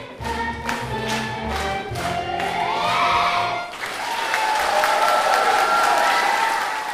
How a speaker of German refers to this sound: Das hatten sie sich redlich verdient, die 25 Grundschulkinder der Grundschule an der Alla in Oebisfelde. Minutenlangen Applaus und ganz viel Lob aus erwachsenem Mund am Ende ihrer Musical-Aufführung.